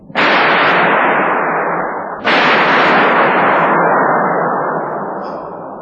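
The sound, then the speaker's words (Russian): Two loud, sharp cracks of artificial lightning from a high-voltage test discharge on the VAI test stand of an institute, heard from about 10-12 metres away, each trailing off into a harsh, crackling roar that slowly fades. No one speaks. “Сейчас вам представится редкая возможность побывать рядом с молнией. В метрах это к 10-12.”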